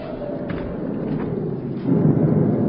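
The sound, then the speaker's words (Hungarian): A deep, continuous rumble of thunder rolls through a stormy backdrop, swelling noticeably louder toward the end, with no voices over it. “Nyakunkon a vihar.”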